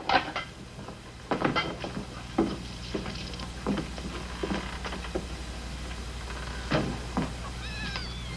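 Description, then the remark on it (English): Thin, high-pitched kitten mews and cat meows from kittens in a barrel with their mother cat come through amid scattered wooden knocks and clattering thumps, with the brief squeaky cries clearest near the end and no talking. “Lassie found the kittens. The mother cat's in with them.”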